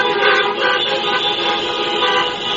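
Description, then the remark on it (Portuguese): The horns of hundreds of cars and pickup trucks in a drivers' protest through a city centre blare at once in a loud, continuous, overlapping chorus of sustained honks, with no pauses and no voices. “O buzinaço durou cerca de 2 horas.”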